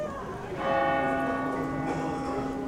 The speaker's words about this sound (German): Dann durchbricht ein Glockenschlag die Stille und beendet das Schweigen.